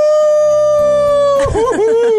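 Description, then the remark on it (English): A wolf's long, loud, steady howl holds one pitch for over a second, then breaks into a wavering, yipping warble with quick rises and falls, heard alone. “Howl at the moon.”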